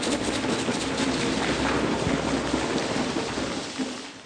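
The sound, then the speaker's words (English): A group of people imitates a rainstorm with thunder and lightning, using their mouths, legs and clapping hands, producing a dense, steady hiss and patter with a low rumble like thunder, sustained for about four seconds before easing slightly at the end. “After three, we're going to be the rain and the thunder and the lightning.”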